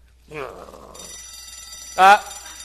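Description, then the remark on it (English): A bell starts ringing and keeps up a steady, bright metallic ring to the end, while a person's voice briefly speaks before it begins and once more over it. “Bell rang.”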